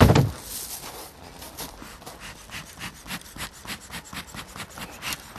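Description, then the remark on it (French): A beekeeper's smoker in the Paris region, used when approaching the bees to take their honey, puffs in a steady, repeated rhythm, each breathy, raspy whoosh of air following quickly on the last, a chuffing pattern that recalls a steam locomotive. No one speaks. “Fait très bien la locomotive à vapeur, mais alors qu'en fait c'est simplement l'enfumoir qui est tout à fait nécessaire pour dire aux abeilles « Coucou, j'arrive et vous allez me laisser prendre votre miel.”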